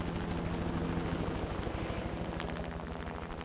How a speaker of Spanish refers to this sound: Después de eso, ellos se lo llevaron en el helicóptero.